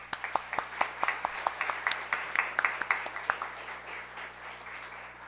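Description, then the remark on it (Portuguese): An audience at a legislative ceremony applauds a staff member, a dense patter of sharp overlapping claps that holds steady for a few seconds, then thins out and fades away with no one speaking. “para quem peço uma calorosa salva de palmas.”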